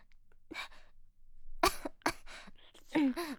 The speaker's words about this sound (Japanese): ちょっと咳しただけ。